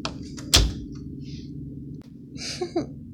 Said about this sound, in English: Let me close the door.